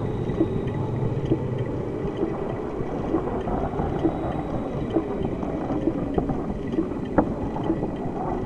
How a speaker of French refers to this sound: Elle se cache dans un cargo, mais une terrible tempête éclate en mer.